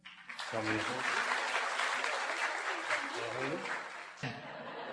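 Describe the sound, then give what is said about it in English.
An audience bursts into steady, dense hand clapping for a girl being introduced, filling nearly five seconds, with voices and cheers mixed in over the applause. “Give her a big hand clap. Pode aplaudir.”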